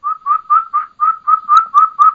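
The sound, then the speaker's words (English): A wild turkey hen calls in a quick, steady run of about nine clear, high, flute-like notes, each short and evenly spaced, fairly loud with no voices over them. “but you can hear that hen just out there.”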